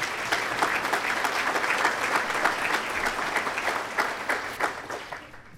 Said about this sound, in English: Let's give a round of applause to all the people on the screen. Thank you.